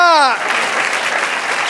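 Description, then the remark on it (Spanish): An audience breaks into sustained applause for the Lord during a church service, dense and steady clapping right after a brief shouted voice at the start. “Dar un aplauso al Señor.”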